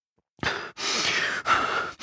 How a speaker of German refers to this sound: Andreas kann hören, wie die Anruferin am anderen Ende der Leitung tief durchatmet.